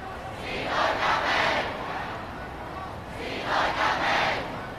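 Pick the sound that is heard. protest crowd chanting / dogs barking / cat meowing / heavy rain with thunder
protest crowd chanting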